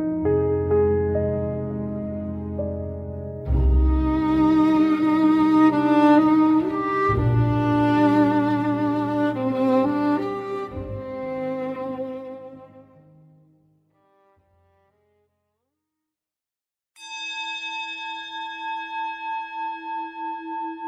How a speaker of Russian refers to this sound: Звон тибетской поющей чаши родился из тишины, как первый вдох. Мягкий, текучий. Он заполнил маленькую комнату, растекся по углам, коснулся стен и замер.